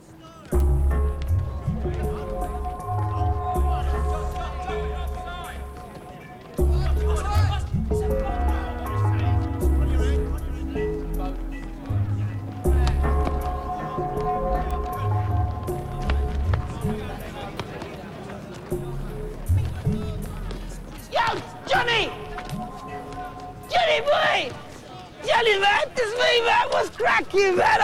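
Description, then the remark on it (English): Prisoners chat in a prison exercise yard, their indistinct voices mingling beneath a loud, looping music bed with deep bass, growing livelier and more excited toward the end. “walks in the prison exercise yard with the other prisoners.”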